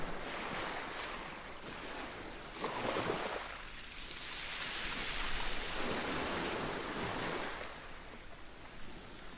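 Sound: ocean waves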